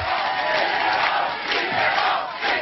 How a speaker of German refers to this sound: In Château Chinon an der Loire, wo Mitterrand Bürgermeister gewesen war und wo er nun mit Parteifreunden und Sympathisanten auf das Wahlergebnis wartete, war der Jubel groß.